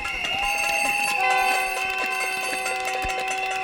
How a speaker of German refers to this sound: Mit Pfeifen und Trommeln versuchten die Beschäftigten der Tarifgemeinschaft der Länder auf ihre Anliegen aufmerksam zu machen.